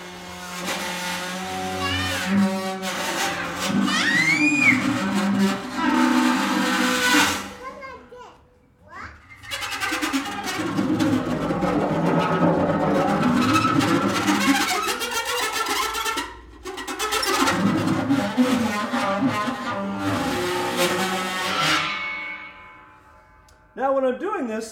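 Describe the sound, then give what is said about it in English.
A violin bow scraped across a cymbal produces sustained, shimmering metallic tones with shifting high overtones and a few sliding pitches, broken by brief pauses, loud throughout. “Okay, so I have this violin bow, and I use it on the cymbal, and it sounds, it makes a lot of different sounds.”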